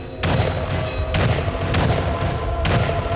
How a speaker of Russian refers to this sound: И вдруг грохает из пушки. Отец кричит: «Пушки, гляди, палят!» И указывает на башню.